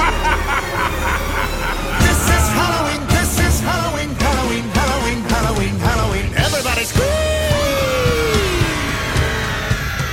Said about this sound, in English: And now, to end our ghostly gathering, we invite you to partake in our favorite Halloween tradition, the scream-along. Any volunteers? Just scream like you're trying to wake the dead!